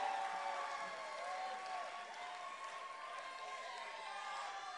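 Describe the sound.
An audience claps steadily and continuously for a gospel choir member about to share his testimony, a dense even patter that holds at the same loudness throughout, with voices calling and singing out over the clapping.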